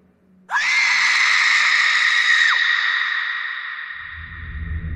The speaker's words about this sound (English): But then, we heard a scream.